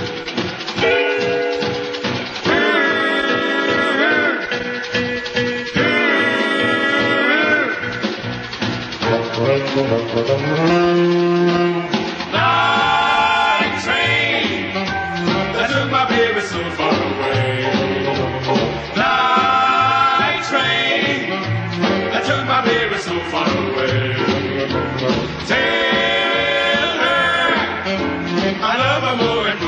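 A recorded vocal group song plays loud and steady throughout, layered harmonizing voices rising and falling over a full, rhythmic instrumental backing with no pauses.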